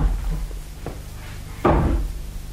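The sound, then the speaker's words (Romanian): A chair topples over in the adjacent room, landing with one heavy, muffled thud and a short rattle, preceded by a faint knock. No one speaks. “A căzut un scaun în camera de alături.”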